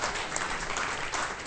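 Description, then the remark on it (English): A burst of audience applause at the Tacoma Comedy Club after a movie roundup segment, dense crackling claps filling the whole clip at a steady, fairly loud level with no voices standing out. “Probably the first time that's gotten applause at the end of it.”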